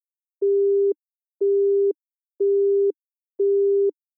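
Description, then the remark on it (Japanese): A telephone busy tone repeats four times in even on-off pulses, each steady beep lasting about half a second with equal silences between, clear with no voices, after a silent caller's call is cut off. “電話はそのまま切れてしまいました。”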